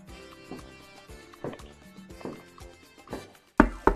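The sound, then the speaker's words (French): A door creaks faintly on the other side of an office while slow, evenly spaced footsteps approach, about two per second, growing sharply louder in the final two heavy steps. No one speaks. “Une porte grince de l'autre côté du bureau de Dora. Des pas se rapprochent.”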